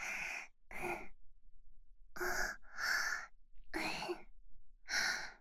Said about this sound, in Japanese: 吐息でゾクゾクしちゃダメです。